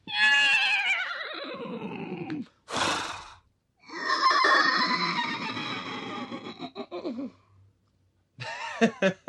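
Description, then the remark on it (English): People imitate horse sounds with their voices: a descending, quavering whinny, a sharp breathy burst, then a longer rumbling nicker-like call and a brief final whinny, loud. “Wickering or nickering, there's a bit of which is the proper term, but yeah, a nicker, which is quite rumbly and a whinny. Should we do our different versions of it, because we've got quite different ones, haven't we?”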